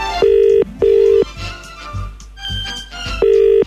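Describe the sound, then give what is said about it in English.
A telephone ringing tone through the handset as a young man phones the chemist: loud, buzzy tones pulse three times with gaps, while softer dial-like beeps and clicks fill the middle. No one speaks. “So he phones the chemist.”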